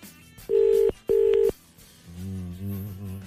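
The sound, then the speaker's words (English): A phone call ringing on line two: two loud, steady electronic tone bursts in quick succession, clear, followed by a muffled, garbled low sound on the line. “I'm on line two there. It's ringing.”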